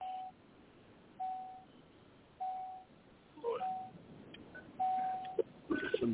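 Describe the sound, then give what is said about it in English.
A truck's low-fuel warning chime beeps steadily, signalling it needs diesel, a single mid-pitched tone repeating about once a second over low engine rumble, with some clattering noise near the end. “Yeah, I hear you beeping telling me you need diesel.”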